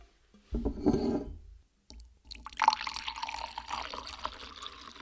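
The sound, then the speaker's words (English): Mulled wine with added orange and lemon bitters is poured into a glass in Texas, a short splash and gurgle followed by a steady stream of liquid filling the glass, with no one speaking. “I'm going to pour it in.”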